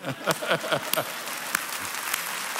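An audience breaks into applause, a dense, steady patter of many hands clapping at moderate volume for a couple of seconds, with a few sharper claps standing out.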